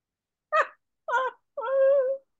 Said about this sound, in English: Oh, I could hear that high-pitched yawn. I could.